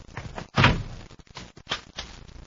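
A heavy door swings shut with one loud, deep thud, followed by a few fainter knocks and rattles as it settles. No one speaks.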